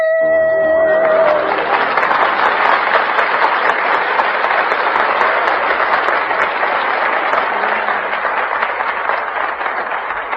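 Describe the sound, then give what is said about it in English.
A held musical note fades as loud, dense audience applause breaks out at a talent search program, a steady wash of many hands clapping that keeps going without letting up for about nine seconds. “Stand by until the end of the program when the audience applause will decide the winner.”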